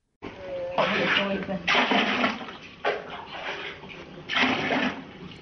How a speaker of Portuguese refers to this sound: está pegando a água do tanque para irrigar os rebentos de arroz.